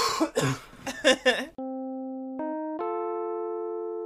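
A short run of harsh, close coughing bursts, followed by a bright electronic chord that holds steady and then steps up twice in pitch, like a sting or jingle.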